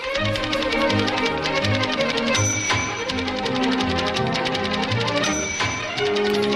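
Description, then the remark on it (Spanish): Old typewriter keys clatter in a fast, continuous run of sharp clicks, fairly loud, over a steady tonal background that runs throughout without pause. “Así que el sonido de estas viejas teclas volverá a sonar.”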